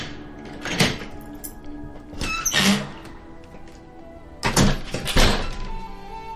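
A house key, taken from a jeans pocket, scrapes and turns in an apartment door lock, followed by a few dull thunks and clicks as the latch releases and the door swings open, with no one speaking.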